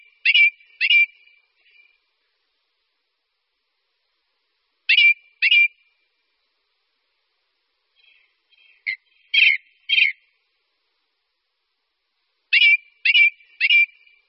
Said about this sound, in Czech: Kos horský rád zpívá časně ráno i za soumraku na vyvýšených místech.